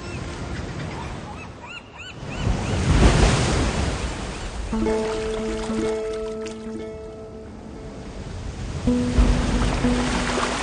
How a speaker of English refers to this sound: The sea is calm tonight, off Dover Beach.